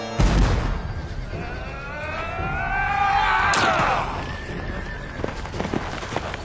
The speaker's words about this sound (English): And the nimble gunner, with linstock now the devilish cannon, touches.